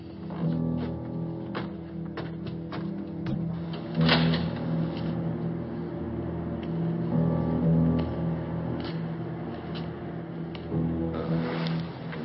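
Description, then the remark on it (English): A door is opened amid a steady low rumble, with a series of sharp clicks and clunks, a heavier thump partway through, and muffled scraping as it moves. No one speaks. “Knock or something? No, open it.”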